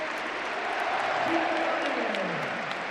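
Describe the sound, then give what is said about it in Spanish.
A large stadium crowd roars and applauds in a steady, sustained wash of cheering, loud and dense throughout, with a faint voice rising briefly beneath the noise: an ovation for Atlético de Madrid player Juliano as he is substituted off. “Ojo a la ovación, ¿eh?”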